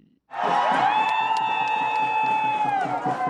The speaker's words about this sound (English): A group of Rwandan fans cheer up their team, Amavubi ladies, in a hotly contested game between Rwanda and the Crested Cranes. The Ugandan women's soccer team at Stade do Kigali, Nyamirambo.